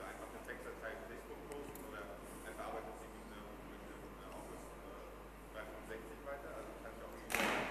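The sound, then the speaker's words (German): A door bangs shut once near the end, a sudden loud thud cutting through a steady murmur of voices and room noise. “Ich habe das eben akustisch nicht verstanden, wenn die Tür geklappt hat.”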